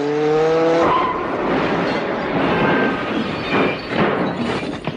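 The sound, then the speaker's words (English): A car driven by a blindfolded driver revs loudly and then roars away with a long burst of screeching tyres and rushing noise, continuous, with no voices. “You want me to drive blindfolded?”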